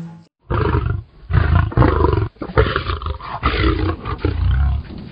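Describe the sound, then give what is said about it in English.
A lion roars loudly, a series of deep, rumbling bursts with short pauses between them, no talking over it. “Roar! This is the lion.”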